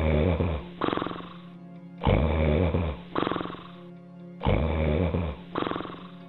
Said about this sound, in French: Quel ronflement ! La vieille dame est peut-être souffrante.